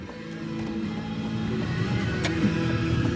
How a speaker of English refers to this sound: That's me getting out of a car